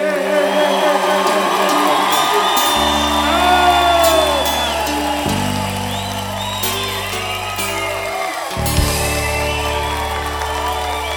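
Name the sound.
audience cheering and applauding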